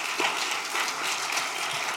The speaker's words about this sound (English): Could we have another round of applause for our two youth?